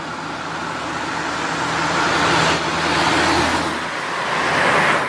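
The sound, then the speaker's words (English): Steady road noise heard from inside a car at a Walmart, a broad rushing hum with a low engine drone underneath, swelling as vehicles pass by. It sounds muffled and continuous, with no voices. “I'm in my car here in the Walmarts.”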